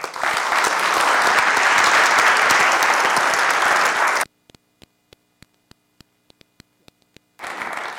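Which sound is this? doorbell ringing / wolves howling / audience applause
audience applause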